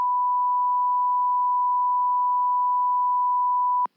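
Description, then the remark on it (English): A single loud, steady censor bleep covering a spoken address at the end of a voicemail, a pure high-pitched tone held for nearly four seconds before cutting off abruptly, with nothing else audible around it. “We censored the address at the end of that last one.”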